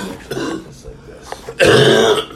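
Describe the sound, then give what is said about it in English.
A harsh, raspy cough bursts out after smoking weed, following a few quieter breathy throat sounds, one loud rough hack lasting about half a second. “Cough right up in that fire.”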